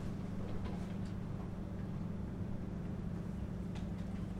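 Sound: watch ticking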